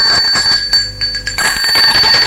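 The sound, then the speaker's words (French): An electric doorbell rings loudly and continuously with a bright, buzzing metallic tone, with no voices. Someone is ringing at Nicolas's door one morning. “on a sonné à la porte de Nicolas.”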